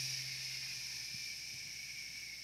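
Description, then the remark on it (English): A voice makes a steady, sustained "shh" hissing sound imitating an old pressure cooker slowly letting off its steam pressure, held evenly for a couple of seconds with no other sounds around it. “Like an old pressure cooker, right? If you're at 10 pounds for how many ever minutes, you're not going to pull off that valve, are you?”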